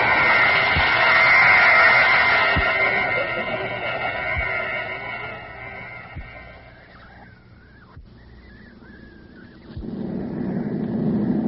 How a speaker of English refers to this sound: Beautiful takeoff. Yes, good pilot. But why did you charter such a large plane for just the two of us,